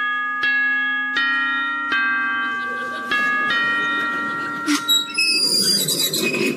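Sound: door bell ringing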